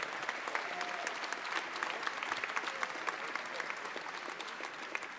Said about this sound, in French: On les applaudit bien fort.